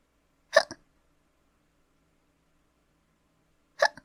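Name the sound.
hiccups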